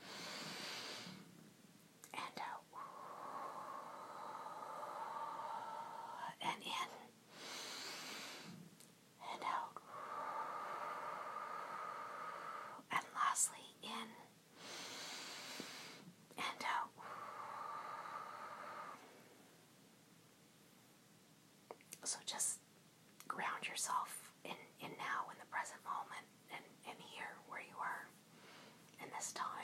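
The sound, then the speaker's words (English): Slow, drawn-out breaths in a guided relaxation breathing exercise meant to be followed along, each lasting several seconds, with airy inhales and exhales repeated about four times, followed by soft, breathy whispering toward the end. “Just listen to my breathing and follow along in.”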